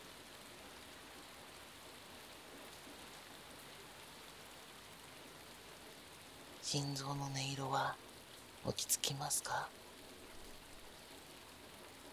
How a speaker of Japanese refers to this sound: この雨はきっとあなたの涙。